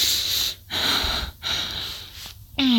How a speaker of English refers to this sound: Moving against you with all this. This fucking heavy breathing, all this.